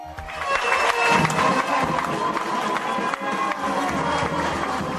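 A lively crowd of a few dozen friends and fans cheers and shouts continuously, steady and fairly loud, welcoming a bronze medal-winning athlete at Nikola Tesla airport, with trumpeters' brass horns blaring through the noise for the whole stretch.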